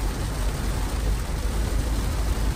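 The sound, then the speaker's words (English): Heavy rain pounds steadily and loudly on a moving car, a dense continuous roar with a deep low rumble and road noise beneath it. “doing this rain”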